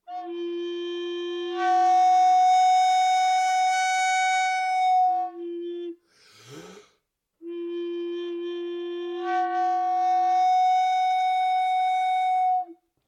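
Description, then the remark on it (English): A wind instrument holds a steady breathy tone, then jumps into a brighter overblown upper register on a G overblow; a short breath or air noise breaks it before the note returns and swells again. “And I find that the G overblow is the one that sounds very Japanese.”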